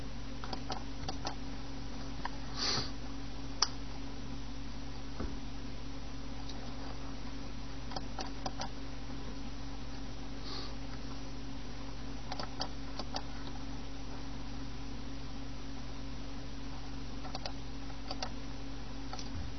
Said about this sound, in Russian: Часы.